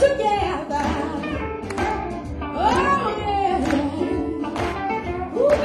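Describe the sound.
An audience in Vienna claps hands together in a loose, steady rhythm, with voices whooping and calling over the dense, lively noise.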